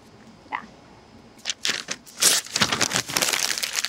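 Paper crumpled: a faint rustle, then from about a second and a half in a dense burst of loud, irregular crinkling and crackling that continues to the end, with no voices.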